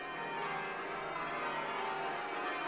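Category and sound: signal or alarm, church bells ringing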